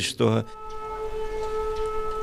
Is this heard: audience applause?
no